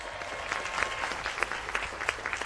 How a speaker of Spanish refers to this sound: Sí, señor, bienvenido al equipo del Instituto Cervantes. Un aplauso, por favor, mucha suerte.